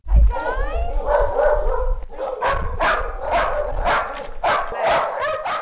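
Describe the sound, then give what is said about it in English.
Many dogs held in individual kennels at a Humane Society animal shelter in West Alabama bark at once in a loud, overlapping chorus, with sharp yaps and higher yips piling up continuously. “A chorus of barking greets anyone who pulls into the live-in area that houses two volunteer workers for the Humane Society of West Alabama.”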